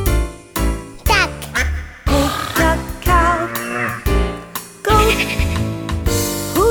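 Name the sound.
duck quacking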